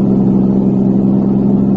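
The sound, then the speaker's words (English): A car engine runs loudly and steadily, a low, even rumbling drone with a thick hum that holds constant for the couple of seconds without any speech. “There's a car. It stopped.”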